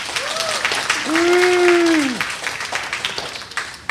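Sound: audience clapping hands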